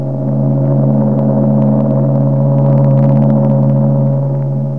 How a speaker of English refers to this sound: There she blows. A great liner bound for Cathay, bound for Singapore, bound for Philadelphia, bound for any place that'll take you away from the routine. Do you argue that it's not the idea of escape which makes a ship's whistle romantic?